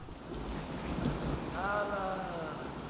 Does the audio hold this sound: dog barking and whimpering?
no